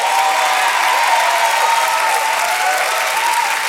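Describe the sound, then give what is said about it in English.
A crowd claps steadily and loudly throughout, a dense wash of hand claps with faint cheering and shouts mixed in, sustained at an even level for the whole stretch. “Somebody clap your hands and shout.”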